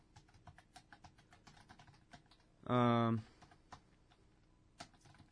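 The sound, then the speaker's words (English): Quick, irregular clicking of fingers typing on a computer keyboard, fairly quiet, runs throughout, briefly interrupted midway by a loud half-second tonal hum. “Yeah, sorry. No more typing.”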